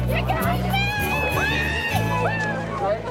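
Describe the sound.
A dense, continuous babble of many overlapping voices from a lively engagement party crowd on the roof of an apartment building, with a steady low hum and bursts of chatter rising above it throughout.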